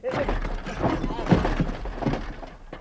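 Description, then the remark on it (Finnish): A person falls over with a clattering crash, a tumble of several loud thuds and breaking-like rattles spread over a few seconds, with voices faintly underneath. “Siihen se raukka taas kaatui.”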